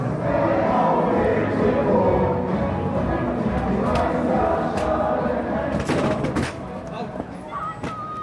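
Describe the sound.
Football fans chant and shout together in a packed fan-club pub in Bremen before a match against Hannover 96 at the Weserstadion, a loud, dense wall of voices that runs throughout, with a few sharp knocks or claps near the end.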